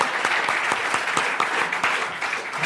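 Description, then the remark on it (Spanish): An audience claps steadily, a dense patter of many hands with sharp individual claps standing out, sustained at a fairly loud level throughout with no voices on top. “Un fuerte aplauso, muy bien.”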